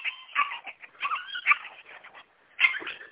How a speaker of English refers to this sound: Puppies are definitely not enjoying this.